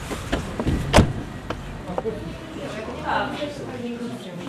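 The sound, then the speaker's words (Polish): A car door clunks open near the start, followed by shuffling, creaking and bumping sounds as a wheelchair user tilts the wheelchair slightly, grabs the door and moves from the wheelchair into the driver's seat, with faint voices and vehicle noise in the background. “Podjechać, troszeczkę trzeba wózeczek przychylić, bierze, chwyta się za drzwi.”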